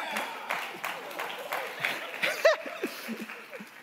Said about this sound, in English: Amen? Amen. You can clap for that. That would be wonderful. Thank you for that.